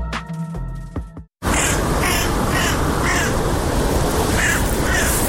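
A crow caws repeatedly in harsh, rasping bursts over a dense outdoor noise bed, following a brief tonal musical sting and a moment of silence.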